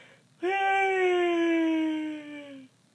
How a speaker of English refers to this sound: Yawning is so awesome. Actually, it's a good vocal warm-up. But it's just, like, it relaxes your muscles then, you know? After, like, your jaw.